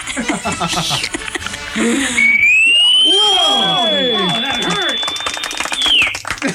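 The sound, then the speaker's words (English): A Piccolo Pete whistling firework, lit with a lighter, shrieks, rising sharply to a shrill, steady high tone that holds for about four seconds before falling away, while people exclaim and laugh over and under it. “No, we don't have a firecracker, but we have a Piccolo Pete. What's that? Never heard of that. Those are those whistling things.”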